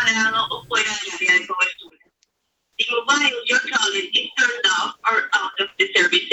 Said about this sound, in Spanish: Espero que lo hayan oído. Los servicios del móvil está fuera de servicio o lejos del área de cobertura.